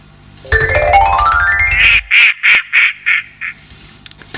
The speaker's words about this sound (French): Bon, alors maintenant, le coin-coin.